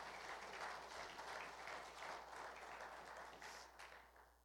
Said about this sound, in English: all of our guests a hand clap of appreciation today.